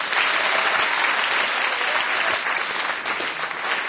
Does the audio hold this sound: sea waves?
no